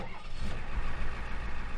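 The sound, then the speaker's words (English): A truck engine starts up as the truck is being stolen, settling into a steady, loud, low rumble with a mechanical hum, continuous, with no voices. “Our truck's getting jacked.”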